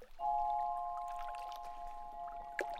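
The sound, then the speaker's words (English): An open hand dips into flowing water, with gentle trickling and dripping throughout and a small splash near the end, over a steady, sustained tone. No one speaks. “Now, gently, slowly, bend over and dip one hand, your open hand, in the water.”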